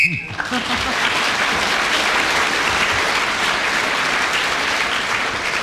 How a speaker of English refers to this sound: Well, as Clement Freud was speaking then when the whistle went, he gets that extra bonus point